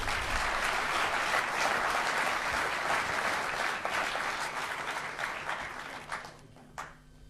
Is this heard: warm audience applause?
yes